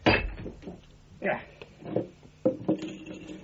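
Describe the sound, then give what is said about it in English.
A hammer smashes a plaster bust: about five sharp, cracking blows at an uneven pace, each followed by a brief crumbling clatter of debris, with faint voices underneath. “Ah, Holmes, what are you doing with that hammer?”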